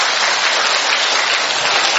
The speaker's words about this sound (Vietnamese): Rồi mời các thánh giáo đoàn nhà bè giơ tay. Rồi xin chào các thánh, một tràng pháo tay thật to thưa anh chị em.